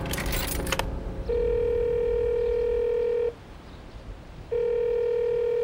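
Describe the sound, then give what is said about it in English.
A brief clattering rattle of a payphone handset, then a steady telephone tone sounds in two long, loud stretches separated by a short pause, clear with no voices, as a man calls the family lawyer from a payphone. “He kills the engine and goes to the payphone to call the family lawyer.”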